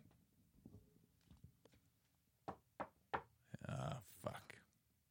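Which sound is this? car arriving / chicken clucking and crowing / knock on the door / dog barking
knock on the door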